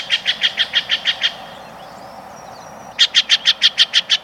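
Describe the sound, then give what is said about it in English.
A Steller's jay, a common jay of the western states, gives loud, harsh, raucous calls in two rapid bursts of about eight repeated notes each, separated by a brief pause, clear with no talking. “This loud, raucous call belongs to a common jay of the western states, the Steller's jay.”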